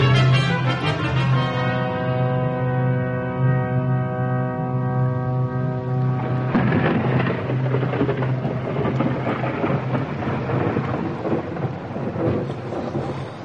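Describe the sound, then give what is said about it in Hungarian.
A thunderstorm with heavy, pouring rain: a steady humming drone fades over the first seconds into a loud, continuous rushing roar of downpour and rumbling thunder, with no voices. “Ömlik és zuhog, mint egy új vízözön akarna elnyelni a föld minden bércét, ormát.”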